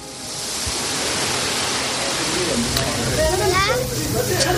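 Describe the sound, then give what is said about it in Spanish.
A steady roar of ocean surf on a beach on the Senegalese coast, about 1,500 kilometres from the island of El Hierro in the Canary Islands, washes continuously across the whole moment, with faint voices drifting in underneath toward the end. “1.500 kilómetros en línea recta desde esta playa, desde este punto de la costa senegalesa hasta Canarias, se tarda en el mejor de los casos una semana, 8 días.”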